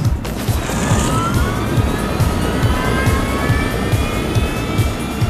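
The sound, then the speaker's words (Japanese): A rocket booster engine on a shabby-looking boat, a spy ship developed by the French Navy, is switched on and blasts with a loud, steady roar and a rising, jet-like whine layered on top, continuous for several seconds with no voices. “ロケットエンジンか。ボロいのはカムフラージュだ。”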